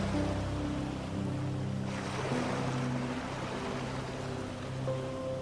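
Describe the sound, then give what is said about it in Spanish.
Gentle ocean waves wash continuously against the shore of a tropical beach with soft sand, swelling softly about midway, with a calm sustained musical drone underneath and no voices. “La arena suave se extiende por toda una playa tropical, juntándose con las olas del mar que van y vienen en la orilla.”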